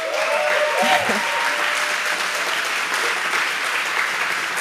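Sustained audience applause in a concert hall at a music festival weekend, broadcast on SWR 2 radio, fills the whole stretch. It is a dense, steady wash of clapping at even loudness, with a brief tonal voice-like murmur near the start.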